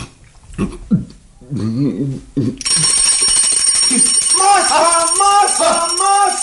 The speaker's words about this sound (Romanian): Masa! Sună clopoțelul!